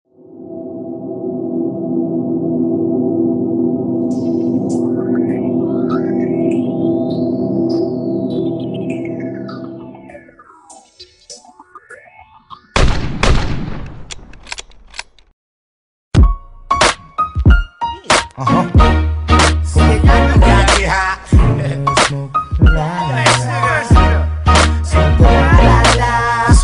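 A droning synth intro with swooping tones and a noisy whoosh, a brief pause, then a loud, punchy old-school hip-hop track with heavy bass and steady beat kicks in, played on the Rap Dawa show.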